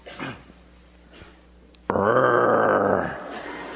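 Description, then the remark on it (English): A man, playing a lion for the Bible story of Daniel in the lion's den, lets out a loud, throaty imitation of a lion's roar lasting about a second, preceded by faint background noise and a brief soft sound. “Can you roar?”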